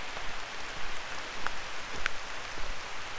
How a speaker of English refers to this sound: Wow, it is pouring. It's pouring down rain.